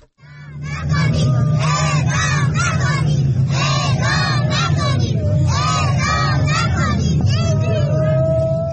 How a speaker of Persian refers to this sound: بنا بر گزارش‌ها این تجمع با حضور چند صد نفر از بستگان زندانیانی که در جرایم عادی محکوم به اعدام شده اند برگزار شد. در ویدیوهایی که از این تجمع منتشر شده، صدای گریه برخی زنان حاضر در تجمع شنیده می شود و کودکان نیز فریاد می زنند اعدام نکنید.